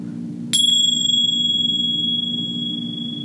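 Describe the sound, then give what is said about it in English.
A single bright meditation bell is struck once, its clear metallic tone ringing out and slowly fading over a few seconds above a low steady hum, with no one speaking. “Yes, so we're going to drop in and just be present for the cast, and I'm going to go ahead and ring our bells.”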